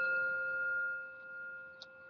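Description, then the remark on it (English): A meditation timer rings a single sustained, bell-like chime with clear layered tones that hold steady and slowly fade, with a faint tick near the end and no one speaking. “Did you hear that noise? That's the meditation timer.”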